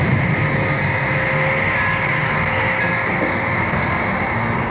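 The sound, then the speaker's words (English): A submarine's heavy engines start and drone steadily throughout, a loud, constant mechanical rumble layered with faint high whining tones and a rattling texture, with no voices. “Change the killer cycles and start the engines.”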